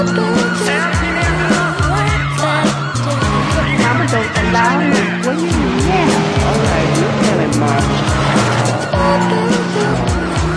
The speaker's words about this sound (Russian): Опять газ, пол, вперед. Пульс, двигатель, шум колес. Руль влево. Занос.